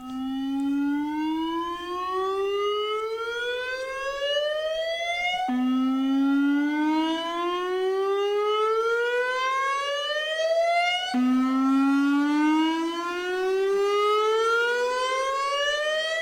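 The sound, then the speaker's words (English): A loud civil defence warning siren wails continuously, its pitch rising steadily in three repeated sweeps of about five seconds each, with no voices present. “And how many sirens are there?”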